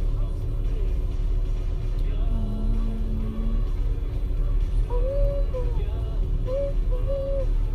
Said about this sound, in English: Oh my gosh, this truck that just, that's so funny, it's turning around.